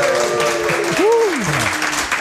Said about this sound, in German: Wir zeichnen mich erst mal vor Publikum auf. Stimmt. Macht euch mal bemerkbar, jubelt mal!